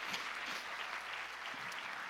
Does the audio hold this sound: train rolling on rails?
no